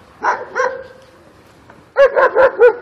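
dog barking

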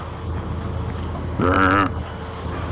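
passing road traffic

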